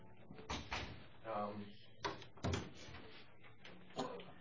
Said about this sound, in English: Let me just close the door here.